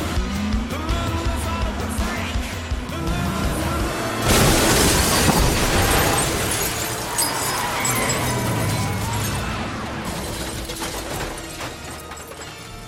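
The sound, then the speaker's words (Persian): A loud, sudden crash hits partway through as a brown pickup truck rams a car, with a burst of breaking glass and crunching metal that rings and rattles for several seconds over a busy, noisy background. “نمیدونم، یه ماشین دیگه بهمون حمله کرد، یه وانت قهوه‌ای، هر دو ماشین در رفتن.”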